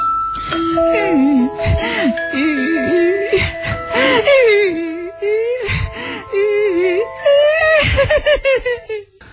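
Desperate crying on a park bench: wavering, high-pitched whimpers and sobs that rise and break in repeated bursts, with faint sustained tones held steadily underneath.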